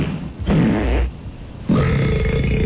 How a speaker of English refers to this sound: Yeah. Hold on, there's one good burp coming up.